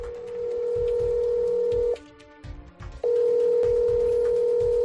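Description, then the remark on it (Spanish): A telephone ringing tone for a recreated phone call: two long, steady electronic beeps separated by a short pause filled with brief, clipped tones, clear with no voices. “Mira, sería algo muy parecido a esta llamada que hemos recreado.”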